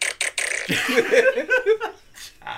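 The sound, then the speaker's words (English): Someone blows wet, sputtering raspberry fart noises straight into a microphone, a few short bursts followed by a longer buzzing run, with a hint of laughter mixed in. “It's just farting noises into the mic.”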